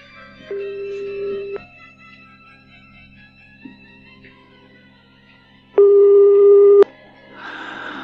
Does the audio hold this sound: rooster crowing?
no